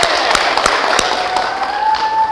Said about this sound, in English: Okay, we're calling in the Hanover Baptist Church classic players to perform for us. Daniel chapter 6. Let's hear a round of applause for the Hanover classic players.